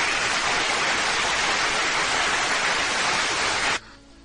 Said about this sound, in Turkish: Bu alkışlar kendisine gidiyor.